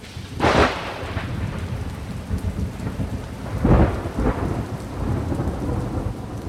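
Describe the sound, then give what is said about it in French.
Steady rain hisses throughout while thunder rumbles in two loud bursts, one early and another a few seconds later with a lingering roll, no voices present. “Le temps menace. C'est vrai que nous vivons une saison incertaine.”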